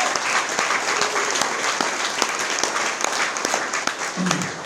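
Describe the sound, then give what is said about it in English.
Steady applause from a meeting audience for a guest speaker, a dense wash of many hands clapping at an even level throughout, with no voices standing out above it. “And let's give our guest speaker another round of applause.”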